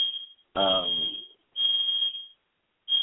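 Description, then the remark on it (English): A shrill, high-pitched fire alarm blares loudly in long repeating pulses with short gaps between them, while a person talks briefly underneath it. “I'm on air and there's a fire alarm.”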